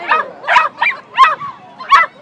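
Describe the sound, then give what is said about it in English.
Several dogs from two racing dog teams about to race each other in a blue and a red lane bark and yip in quick, excited bursts, about five sharp calls over a couple of seconds, fairly loud with no talking. “And Nicky, one of our more experienced dogs in the team.”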